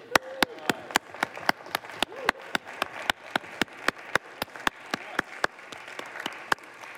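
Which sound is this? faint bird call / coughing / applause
applause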